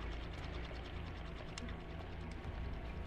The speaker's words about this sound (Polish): Weszła, zamknęła drzwi.